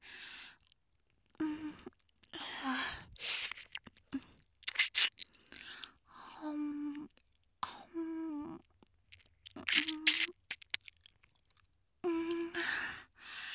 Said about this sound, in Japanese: こうやってお耳の外側のコリコリしたところを子猫みたいにペロペロ甘噛みすると、もう病みつきになっちゃうよね。